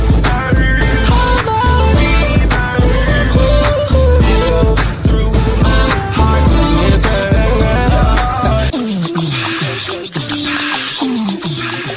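A loud, full song with a driving beat, deep bass and layered melodic parts, no voices standing out; near the end the low end drops away, leaving a thinner, brighter arrangement. Played on the Reverb Live Show.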